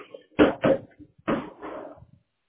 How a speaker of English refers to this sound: Doors open.